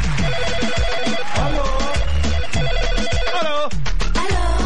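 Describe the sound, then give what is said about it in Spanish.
A WhatsApp call ringtone plays loudly and continuously in the morning, a bright electronic melody with repeating tonal chimes and a steady rhythmic pulse, with no voices over it. “Oye, tenemos WhatsApp a esta hora de la mañana.”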